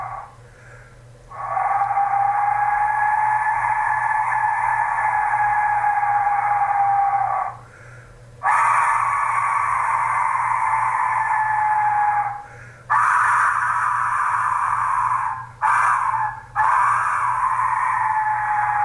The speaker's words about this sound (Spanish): se van a animar a escuchar este sonido que es un silbato de la muerte. Sí. Del Imperio Azteca, que nos dio un poco de terror, ¿te acordás? Vamos a escucharlo.